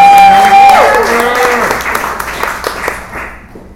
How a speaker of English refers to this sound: Please give it up for this little coffee house. Yeah.